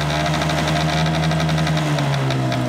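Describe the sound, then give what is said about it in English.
A small Honda Vision scooter engine runs steadily at idle, an even drone with a fast rhythmic ticking riding on top, holding the same pitch throughout with no voices. “It cannot be a motorbike. It has to be a Honda. It has to be a Honda Vision.”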